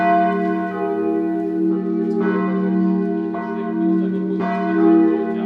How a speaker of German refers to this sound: Einst schwangen sie hoch oben im Turm der Versöhnungskirche. Jetzt läuten die geretteten Glocken mitten auf dem ehemaligen Todesstreifen in einem Holzgerüst.